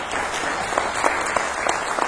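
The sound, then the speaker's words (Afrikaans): An audience claps steadily for a volunteer called up to help, a dense, even wash of many hands with a few sharper claps popping out above the crowd noise, sustained at a moderate level throughout. “Geef hom gou 'n hande klap.”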